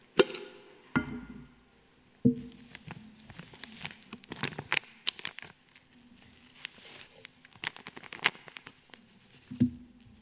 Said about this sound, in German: aber wenn ich so ein Päckchen Kaffee aufmache, packe ich das in eine Dose rein.